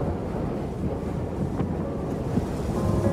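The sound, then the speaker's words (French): Strong wind roars steadily in Antarctica, a dense low rumble buffeting the microphone with no letup, gusting slightly louder toward the end. No voices are heard. “Là, vous avez pu en trouver quelques mots dans le grand vent.”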